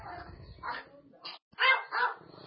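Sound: dog barking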